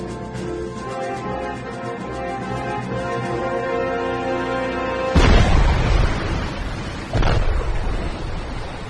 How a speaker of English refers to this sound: Sonar, explosions bearing 195 and 178.